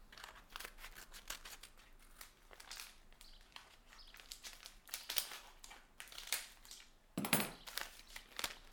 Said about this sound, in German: Ich öffne die Spaghetti-Packung mit der Schere.